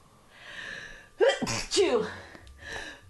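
sneeze

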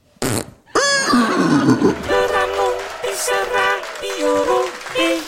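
horse whinnying

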